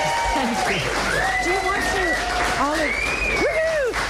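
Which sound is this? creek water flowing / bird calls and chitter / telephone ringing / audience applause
audience applause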